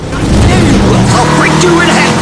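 Prizer's army van engine roars loudly and continuously, revving and climbing in pitch as it speeds along chasing Barb, with a dense rumble of road noise beneath.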